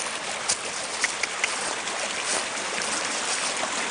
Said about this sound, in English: As you can see in the shade, there is ice still. The creek runs all year long. Waterfalls all down here with bridges here and there.